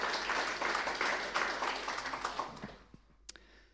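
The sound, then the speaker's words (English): A crowd applauds with dense, steady clapping that gradually thins out, ending in a few scattered individual claps. “Yeah, that clap.”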